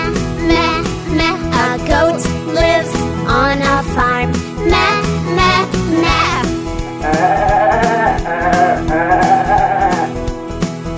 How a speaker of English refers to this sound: A goat lives on a farm. Meh.